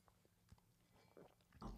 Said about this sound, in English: Smooth as silk. Oh, I wasn't supposed to drink it all? No, you're supposed to sip it, but it's fine.